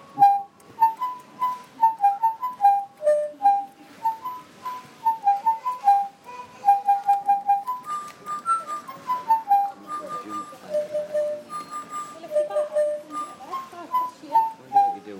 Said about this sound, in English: And there it goes, tweeting away again in this little cage.